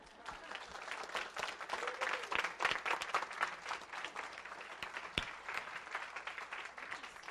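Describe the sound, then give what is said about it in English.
A standing crowd applauds steadily for several seconds for a woman retiring from her ministry work, a dense, even wash of many hands clapping at once with no voices standing out above it. “Now let's stand and applaud”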